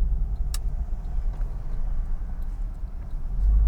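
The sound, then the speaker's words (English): A car's exhaust roars with a steady, deep rumble, swelling slightly louder toward the end, with no voices over it. “I'm still not too keen on this loud exhaust.”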